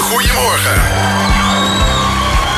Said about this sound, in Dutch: Enthousiast publiek ook vanochtend weer in de studio, hoor ik. Ja, het is wel druk, hoor. Ja, ja, het is weer een keer geen lachband, maar een applausband.